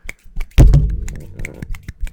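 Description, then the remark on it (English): Someone imitates a one-armed man clapping by tapping: a run of light, irregular taps broken by one heavier thump with a short low ring, and no voices. “One arm man clapping sounds like.”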